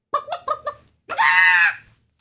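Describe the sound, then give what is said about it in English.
A person imitates a bird call: four quick, rhythmic clucking bursts followed by a long, loud, strained squawk, with no other talk. “I actually call out the birds. That's a pretty good bird.”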